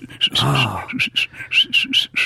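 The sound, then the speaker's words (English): A person does a tooth whistle: a string of short, sharp, high-pitched bursts in a quick, uneven rhythm, loud, with a brief low voiced hum early on. “I can do the tooth whistle, which is...”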